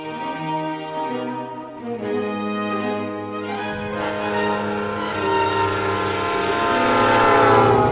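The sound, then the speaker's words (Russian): A train bound for New York blows its horn in long, sustained multi-tone blasts that shift pitch and swell louder toward the end, with steady rail rumble underneath and no voices. “Поезд мчал Лазаря в Нью-Йорк.”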